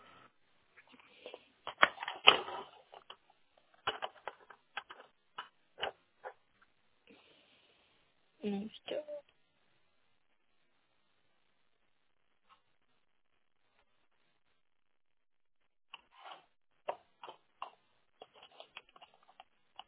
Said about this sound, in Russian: Кабель у вас плотно вставлен в роутер? Да, я уже его туда-сюда делала. А можете его вытащить и так еще раз плотно прижать до щелчка?